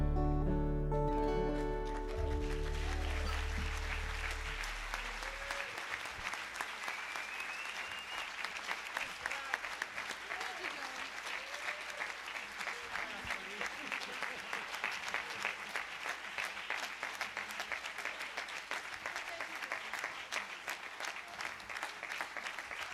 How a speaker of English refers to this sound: Big round of applause for the pesky Jay Nixon guys.